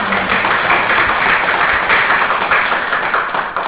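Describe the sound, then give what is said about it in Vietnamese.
A crowd applauds steadily, a dense wash of many hands clapping at once that stays loud and even for the whole few seconds, with no voices rising above it. The audience is applauding the day's good questions. “Nhiều người đó phải cho chung tràng pháo tay lớn nha.”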